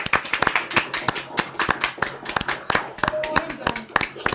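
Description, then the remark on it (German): A small group gives a last round of applause with everyone's microphones switched back on, the claps sharp and uneven, overlapping in a loose patter that keeps a steady level for the whole stretch. Scattered voices and brief chatter mix in beneath the clapping. “Also, ich würde mal sagen, wir machen mal all das Mikro nochmal an und dann können wir nochmal einen letzten Applaus”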